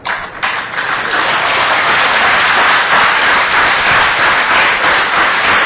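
A crowd claps their hands together during a Hare Krishna kirtan, a dense, steady wash of many overlapping claps that stays loud and unbroken for several seconds, with no voices heard.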